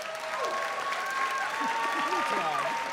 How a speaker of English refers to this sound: Let's hear our cheers for the pro side.